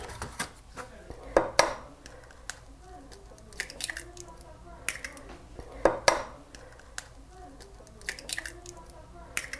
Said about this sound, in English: I do know we're gonna need a couple eggs. So I'm gonna mix those, break those into a bowl, and have those ready. Two eggs.